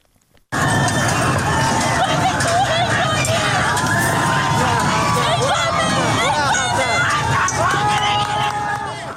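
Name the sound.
protesters shouting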